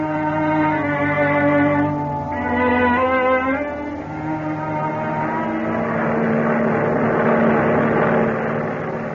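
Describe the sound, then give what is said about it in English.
A loud, steady droning of transport airplane engines in flight at high speed, about 150 miles an hour, a thick layered hum with shifting tonal overtones that swells slightly and holds continuously throughout, with no voices. “A transport airplane moving through the sky at high speed.”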